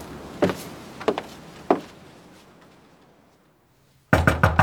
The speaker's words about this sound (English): where he knocks and knocks, until finding the door locked, he flies at it with such violence that the lock gives way.